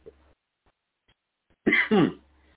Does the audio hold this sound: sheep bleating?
no